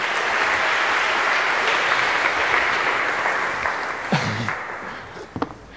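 A room full of people claps steadily, a dense wash of applause at moderate loudness that carries on for several seconds, with a couple of brief louder sounds near the end as it winds down.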